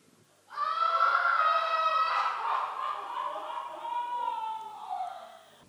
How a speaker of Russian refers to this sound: Что там за шум? Крик женщин, государь.